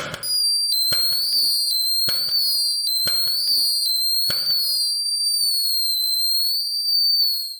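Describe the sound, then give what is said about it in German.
Steady, high whistling tones of New Year's Eve rockets on 31 December 2020 run throughout, wavering slightly, while five sharp firework bangs burst at roughly one-second intervals before the whistles continue alone to the end. “Wie klingt Silvester? So lieblich und schön wie der Jugendchor gerade, der von himmlischen Glocken gesungen hat? Oder doch eher so?”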